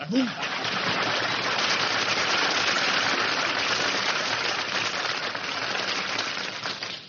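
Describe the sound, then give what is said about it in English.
A crowd applauds steadily for about seven seconds, a dense, even wash of clapping that holds at a constant loudness before tapering slightly at the end. “Man, when I get applause like that, I know the audience is from Brooklyn.”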